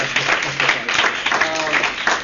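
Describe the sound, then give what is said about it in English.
An audience applauds, a dense, steady wash of many hands clapping at once with no pauses, holding at an even, fairly loud level throughout. “Just give a round of”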